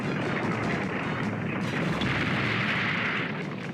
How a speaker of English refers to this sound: Bravestar catches the horse's fist, then throws him across the chamber where he smashes through another wall. The whole building begins to shake.